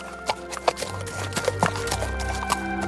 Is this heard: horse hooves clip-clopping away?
yes